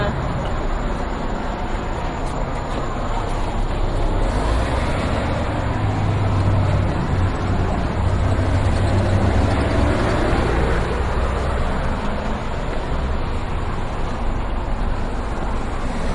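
A steady, loud rumble of a trolley ride through traffic, with a deep motor drone and broad road noise that swells slightly midway and continues without pause.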